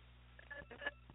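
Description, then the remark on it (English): A couple of brief, high electronic phone-line beeps over a steady bed of crackly static and low hum, all fairly faint, with no voices. “I heard a beep and then a lot of static.”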